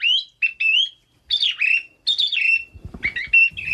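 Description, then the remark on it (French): A bird-song champion imitates bird calls with a quick series of high, warbling whistles and chirps in several bursts, fairly loud, at one point sounding like three birds as he sings in canon with himself, with a soft low rustle near the end. “Un champion de chant d'oiseau.”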